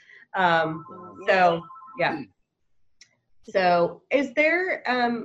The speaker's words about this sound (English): my mother's phone is ringing. I won't be answering it. Hopefully we won't hear the voicemail if we do.